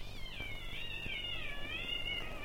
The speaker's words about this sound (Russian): Звучит знаменитый кошачий концерт. Такие концерты происходят на крышах домов по ночам. В марте кошкам они очень нравятся.